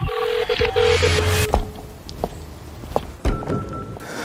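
A rapid series of electronic telephone dial tones beeps in quick succession, followed by a few soft clicks and thumps as the line connects, with no one speaking; a call being placed to a companion telephone service that accompanies people on their way home.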